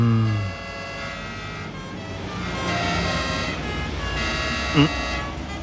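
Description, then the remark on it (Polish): An ambulance siren wails without pause, its bright, buzzy tones holding steady and then stepping between pitches every second or so. A brief low voice is heard at the very start. “Czyżby pogotowie przyjechało do tej staruszki z dołu? Strasznie wyją.”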